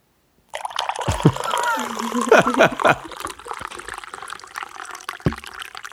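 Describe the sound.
Coffee pours steadily into a cup right in front of a microphone for several seconds, a gurgling, splashing stream whose pitch rises as the cup fills, with brief bursts and muffled voices mixed in.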